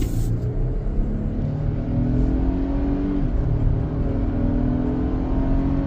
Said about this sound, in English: We put a really big audio system in this 2025 Toyota Tacoma. And the really bizarre thing is that it's got what's called fake engine noise.